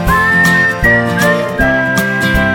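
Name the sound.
human whistling a tune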